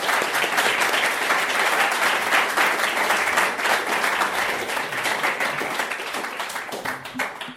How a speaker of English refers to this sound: So you give them a hand, round of applause.